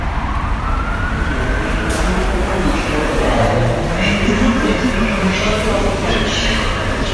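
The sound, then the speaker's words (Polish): Constant roar of city-centre traffic with cars passing and a tram going by, its motor whining in rising and falling tones over the steady rumble; faint voices mingle in the background. “To coś słychać, cały czas coś słychać. Tramwaj. Samochody.”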